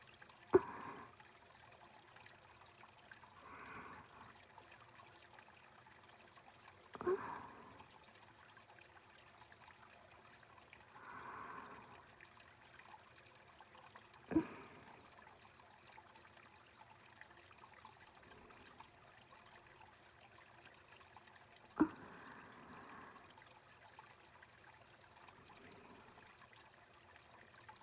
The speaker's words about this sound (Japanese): 天気崩れかけていますね。はるばる霧島までやってきたというのに。あ、霧雨。録音に悪影響が。